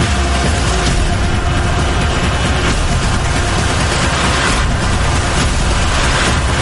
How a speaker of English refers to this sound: Bunch of explosions.